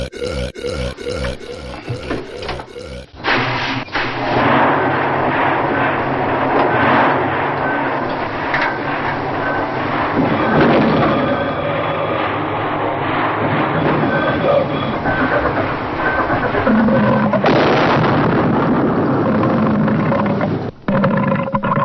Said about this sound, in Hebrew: בקומדיה, מבצע תחתונית, היה צורך בסאונד מצחיק של מנוע של צוללת. פולי הקליט גרפס, הפך אותו והשמיע אותו לאחור ברצף.